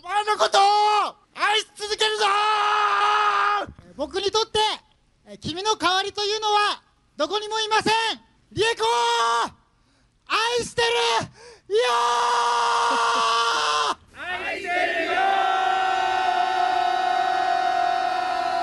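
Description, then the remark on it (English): A group of Japanese people scream: loud, high-pitched voices shriek in bursts separated by brief pauses, then merge into a sustained wall of crowd screaming that continues to the end. “This is a group of Japanese people. You had to guess why. Why they're screaming.”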